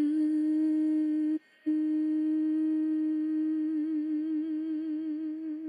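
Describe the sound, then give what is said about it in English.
Three people hum one sustained shared note together, steady and fairly loud, with a brief pause near the start before the hum resumes and wavers slightly toward the end. No speech. “And I really loved the Harmonia So I'm wondering if we should just end on a little a hum, the three of us.”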